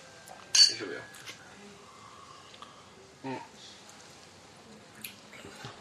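Glasses clink during a toast: a bright clink near the start, followed by a couple of softer clinks a few seconds apart, over a faint, low background murmur.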